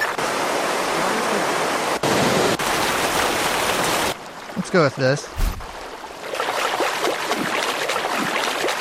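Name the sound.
waterfall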